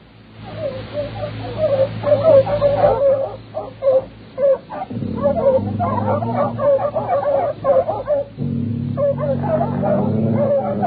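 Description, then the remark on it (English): Dogs bark and whimper in a restless series of short yips and whines over a steady low rumble running underneath throughout. “The dogs were still worried, but we didn't see nothing more.”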